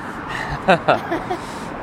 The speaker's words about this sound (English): I figured unhealthy ice cream cones would go well with unhealthy nonstop noise of cars and trucks and exhaust.